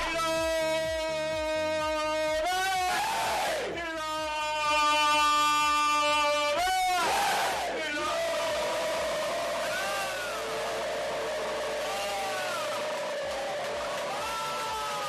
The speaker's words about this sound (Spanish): La imagen más llamativa y el sonido también se produjo en la previa. Uno de los utilleros del equipo es el que dirige los gritos de guerra previos al choque. Escuchad.